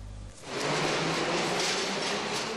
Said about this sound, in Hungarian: Kattog és csattog a 3-as metró kereke, döcög a síneken. Itt pedig megáll a metró, aztán újra elindul, de csak lépésben. Megrepettek ugyanis a sínek, ezért lelassítanak a metróvezetők.